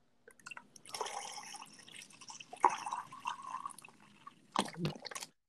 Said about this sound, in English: I can hear you pouring that.